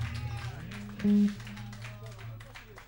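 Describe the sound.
An audience claps and applauds in a steady, dense patter for a few seconds, with voices and a brief sustained tone sounding over the clapping.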